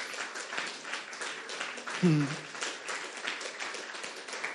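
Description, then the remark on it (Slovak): A large crowd applauds steadily for several seconds in praise of God, a dense, even wash of clapping, with a brief vocal cry rising out of it partway through. “Môžem mu dať jeden obrovský potlesk.”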